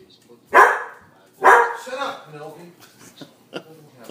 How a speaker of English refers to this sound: Oh, Nelly. Shut up. Sorry. Some dogs joining us in the studio. Something's going on out here. It seems like it. Corey Haim, shut up.